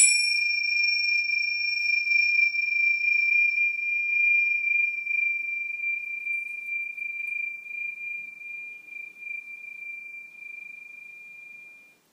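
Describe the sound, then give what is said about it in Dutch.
A small bell is struck once, and its clear, high-pitched tone rings on steadily, fading only slowly over about twelve seconds with no voices. “Fijn, nou, ik ga het belletje laten rinkelen.”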